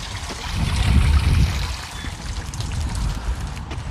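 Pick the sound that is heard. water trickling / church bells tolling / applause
water trickling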